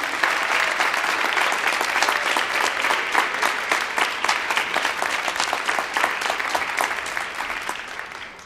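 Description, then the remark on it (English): Sustained applause from a sizable audience at a college campus event, a dense patter of many hands clapping steadily for several seconds before easing off slightly toward the end, with no voices rising above it. “You can give them all a round of applause.”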